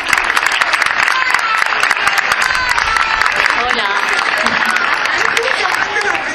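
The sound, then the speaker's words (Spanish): Sustained audience applause welcoming the director general of the Consejería de Educación, Universidades y Empleo before she speaks: dense, rapid clapping fills the whole stretch at a steady, loud level, with a brief spoken greeting heard over it. “Un aplauso.”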